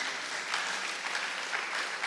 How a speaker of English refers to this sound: Can you clap your hands for Jesus, somebody?